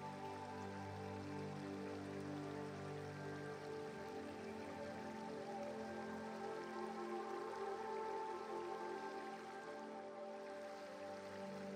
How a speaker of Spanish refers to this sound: Escuchando el sonido de fondo del río, sintiendo la frescura de la sombra que los árboles proyectan y al mismo tiempo sintiendo los rayos del sol que se filtran entre sus ramas besándote la piel.